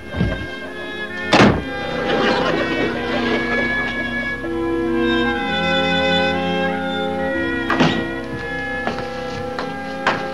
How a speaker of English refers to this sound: just went upstairs and slammed his door.